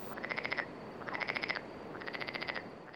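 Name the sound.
frog croaking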